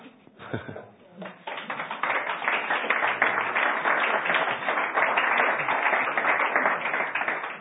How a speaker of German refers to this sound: Ich hoffe persönlich, dass es auf jeden Fall weitergeht mit dem Applaus, so wie das Sie Ihnen zeigen, dass es weitergehen soll